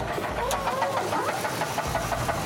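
A truck engine runs with a loud, steady knocking, rapid rhythmic clatter repeating throughout, close up and with no one talking.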